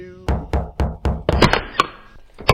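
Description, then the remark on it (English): Someone knocks firmly on a house's front door, five steady raps followed by a quicker flurry of knocks and one last knock, fairly loud with no talking. “Well, the lady wouldn't even answer the door.”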